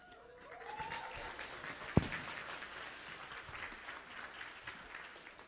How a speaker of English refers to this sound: So just short remarks, Manila has been amazing. Let's put a hand of applause to Manila.